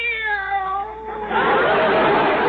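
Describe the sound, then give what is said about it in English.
A single drawn-out meow from Minerva the cat, fairly loud, sliding downward in pitch for about a second, then giving way to a loud, rough hissing noise that fills the rest. “This cat is dog happy. I think she'd even respond to a dog she'd never heard of before, like Bowser.”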